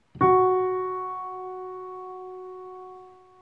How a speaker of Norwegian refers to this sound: Jeg setter an den første tonen først, som skal holdes lenge. Det denne tonen her.